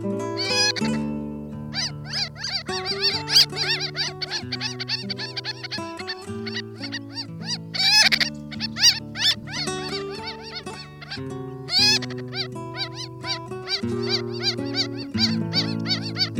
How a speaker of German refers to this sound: Das war die Rosenmöwe.